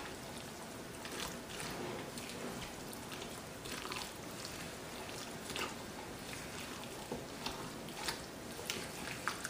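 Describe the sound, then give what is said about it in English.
Batter being mixed in a bowl, a steady run of wet, squishy stirring swishes with occasional sharper clinks and scrapes, and no one talking. “let's finish mixing and then just see if we need to add more water in there or not.”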